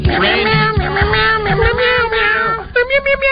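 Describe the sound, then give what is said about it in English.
A man's voice imitates a cat, stretching out a long, wavering meow that slides in pitch for a few seconds, then breaks into shorter yowling mews near the end, loud. “It's the guy in the office. Talks like a cat.”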